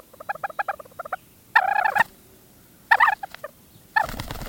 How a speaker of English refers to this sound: Venture high enough in the western mountains, above tree level into the alpine zone, and you'll find talus slopes interspersed with bits of low tundra, home to one of the continent's most reclusive birds, the white-tailed ptarmigan.